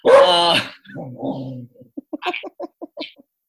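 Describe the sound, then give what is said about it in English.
A dog at the window, barking at a man smoking in the alley, lets out one loud bark, then a low grumbling woof, followed by a quick run of short, sharp yips. No one speaks. “And now the dog's at the window.”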